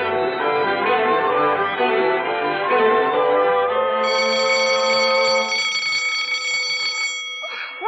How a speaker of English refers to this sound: This school have bells that make you jump out of your skin.